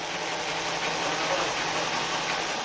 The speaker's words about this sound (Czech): V jeho muzeu jsou vystaveny stroje a nářadí na výrobu provazů pocházejících od druhé poloviny 18. století až po dnešní dobu, přičemž většina strojů je stále funkční a v provozu. Zaposloucháte se do jejich zvuku a za chvíli už je provaz hotový.